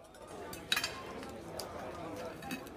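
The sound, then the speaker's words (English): A knife and fork scrape and clink against a plate as a man cuts apart a pizza, with one sharp metallic clink early on and softer scratchy scrapes after, over a low murmur of indistinct voices. “He attacks his pizza with a knife and fork, pulling it apart with contempt.”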